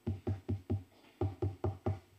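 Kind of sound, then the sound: household object, knocking on a door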